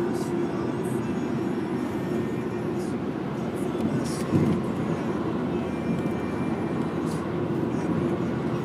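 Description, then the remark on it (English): A small two-cylinder car engine drones steadily from start to finish as the car drives through a tunnel, a dense low rumble with a constant hum and a faint hiss above it, swelling briefly once midway. “You can hear that there are at least two cylinders in that engine.”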